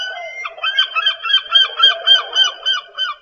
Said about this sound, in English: Did you recognize it? It's a seagull.